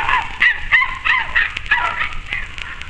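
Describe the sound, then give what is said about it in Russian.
A dog yelps and whimpers in a rapid string of high, pained cries, about eight or nine short bursts in quick succession, loud, with no one talking. It runs on three legs out of merchant Pichugin's woodyard, looking back, chased by a man. “Из дровяного склада купца Пичугина, прыгая на трех ногах и оглядываясь, бежит собака.”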